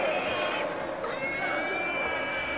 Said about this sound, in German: ein Schwein dreht durch. Es dreht sich wie verrückt im Kreis. Es schäumt. Es ist das Weiße mit den hellen Hufen.